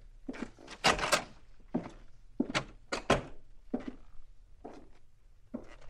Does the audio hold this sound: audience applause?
no